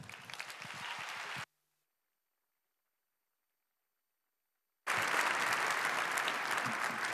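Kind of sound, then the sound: crowd, audience applause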